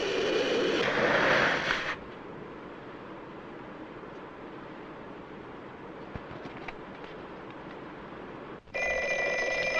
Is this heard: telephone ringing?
yes